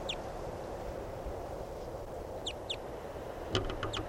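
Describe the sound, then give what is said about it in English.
Calls of a crossbill flying over: sharp, high chipping notes, one at the start, a pair midway, then a quick burst of several at the end, over a steady low rumble of background noise. “Recording a crossbill, it sounded different.”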